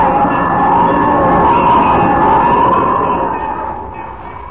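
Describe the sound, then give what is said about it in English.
A loud alarm bell, rung by a person, rings continuously, a harsh, steady metallic clamor that holds for several seconds before easing off slightly at the end, with no voices. “It's the bell. Jimmy's in trouble. He's ringing the bell.”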